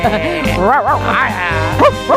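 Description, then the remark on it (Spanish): A person vocally imitates a dog, letting out a string of wavering, yelping bark-like sounds, ending with two short sharp yips. “¡Qué bien ladro, eh!”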